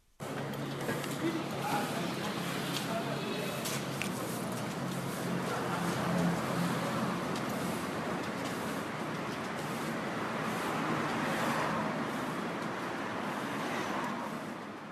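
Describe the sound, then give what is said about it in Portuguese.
A steady wash of road traffic rumbles along past the Westgate shopping centre in Harare, vehicles passing continuously with no pauses, while indistinct voices of people murmur underneath the noise. “Para quem passeia ou passa de carro pelo centro comercial do Westgate em Harare, tudo parece normal.”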